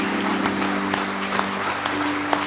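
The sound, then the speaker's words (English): An audience in church on a Saturday night claps their hands together in sustained praise to God, a dense, steady wash of many hands applauding at once, with a low hum underneath and no talking. “Give Him a good hand clap of praise tonight if you love Him.”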